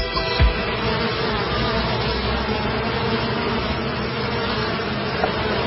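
A steady, dense drone of many bees buzzing together, continuous and fairly loud throughout, with no pauses and no voices.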